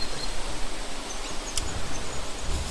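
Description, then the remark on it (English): A steady wash of insect and cricket chirring fills the background, a dense, hissy outdoor texture with faint high-pitched trills and one brief sharp tick partway through; no one speaks. “You can hear the crickets, the bugs, all of the insect stuff.”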